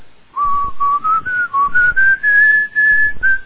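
A person whistles the hymn tune Greider, named for the organist at Strasbourg, as a slow, steady melody, the clear tone stepping gently upward over several sustained notes, fairly loud with no talking.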